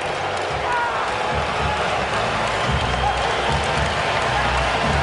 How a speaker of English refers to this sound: A little lull, and then they all stood up and gave him a routing, like a big standing ovation.